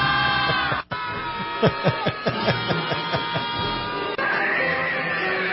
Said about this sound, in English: And literally, if you watch the video, these people are sitting in a circle, rubbing each other's backs and screaming at the top of their lungs.